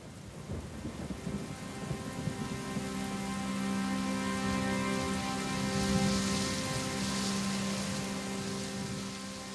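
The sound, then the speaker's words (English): Steady rain pours down with a dense, hissing wash, joined by a low rumbling undertone and a faint sustained hum. It stays fairly constant throughout, swelling slightly in the middle. “Rain, rain, go away. Come again another day.”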